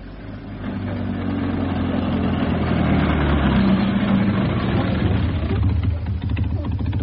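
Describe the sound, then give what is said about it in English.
An old car's engine runs steadily as it is driven down to the local garage, a low, throbbing rumble that swells a little after the first second and then holds an even drone throughout, with no voices over it. “I'll run the car down to the local garage.”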